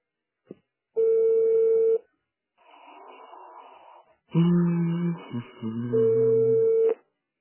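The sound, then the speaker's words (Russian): Telephone tones from a call to a busy number: a steady one-second beep, a burst of hissy line noise, then a cluster of overlapping dialing tones and another steady beep like a busy signal, with no one talking. “Номер, на который вы позвонили, занят.”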